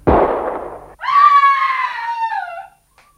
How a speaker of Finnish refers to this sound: Varjelkoon, ammuitte naisen.